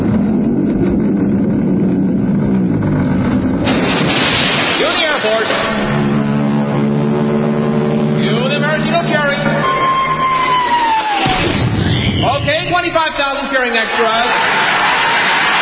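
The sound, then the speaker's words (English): Staged radio sound effects with no speech: a droning Royal Canadian Air Force aircraft engine rumbles as it tows a 10-ton maraschino cherry, then a long descending whistle as the cherry drops, ending in a heavy splat into whipped cream, followed by 25,000 extras cheering loudly. “Then the Royal Canadian Air Force will fly overhead towing a 10-ton maraschino cherry, which will be dropped into the whipped cream to the cheering of 25,000 extras.”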